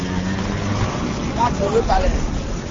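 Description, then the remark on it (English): A motorcycle taxi's engine idles with a steady low hum that fades after a moment as the driver stops to fill his gas tank at a roadside stand selling gasoline in Benin, amid busy outdoor roadside noise and people talking in the background. “motorcycle taxi driver Isaac Kunu has stopped off to fill up his gas tank”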